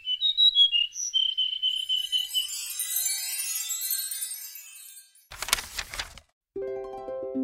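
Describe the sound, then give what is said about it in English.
A bluebird chirps and whistles in a quick run of bright, high notes, followed by a twinkling shimmer, a brief whoosh, and a low sustained tone. No one speaks. “Suddenly, a bluebird appeared and followed him.”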